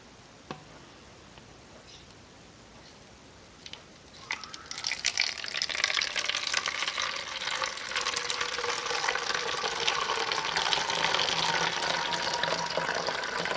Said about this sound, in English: Mix it up. Now, we'll pour that into the bottle I labeled fixer.